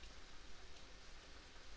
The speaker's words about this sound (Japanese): 君と過ごし始めたから晴れた日あったっけっていうぐらい雨だよ。雨の音で癒されろってことなのかな。